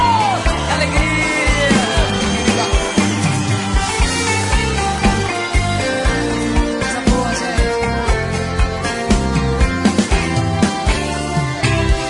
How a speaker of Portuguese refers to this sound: com o aplauso de vocês.